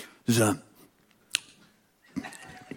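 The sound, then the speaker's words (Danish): A voice imitates bus doors opening with a short, loud breathy hiss-and-thump lasting about a quarter second, followed by a single sharp click, then people start talking. “Er det egentlig dig, der laver lyden, når bussens døre åbner?”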